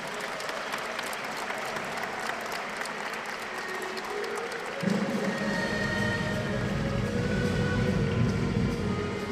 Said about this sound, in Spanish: Le saludamos con un aplauso a nuestro compañero David Choquehuanca.